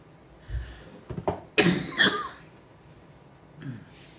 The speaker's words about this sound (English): I know. I heard the allergens are up. I'm like, oh great, I don't cough enough. Yeah, I don't have allergies, but man, I'll tell you what, I can't shake this cough. I just can't shake it.